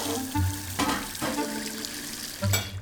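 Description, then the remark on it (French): Water runs steadily into a sink with a broad hiss, broken by a few clattering knocks and splashes as dishes are washed; no one speaks. “Je m'en vais faire la vaisselle.”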